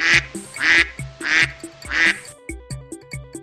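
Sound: duck quacking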